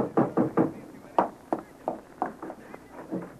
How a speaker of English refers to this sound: Oh, that's Atwater. I can tell by the knock.